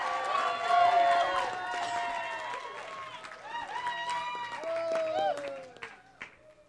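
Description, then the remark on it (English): A crowd at the CCB's 80th-year banquet applauds with loud whoops and cheering voices rising over steady clapping, holding for several seconds before trailing off at the end. “First of all, everybody give a huge round of applause.”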